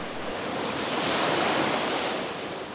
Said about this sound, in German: bis mit einem lauten Tosen eine Welle heranbrauste und sich Vater Rhein aus dem Fluss erhob